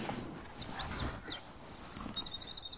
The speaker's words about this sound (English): Oh, that's nice. It's a bird singing. Hello, birds.